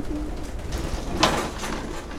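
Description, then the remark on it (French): Racing pigeons coo softly in low, throaty murmurs, with a brief brighter rustle or flutter midway through the short stretch of ambient noise. “Mais mes pigeons, ils me connaissent, et je les connais tous, hein.”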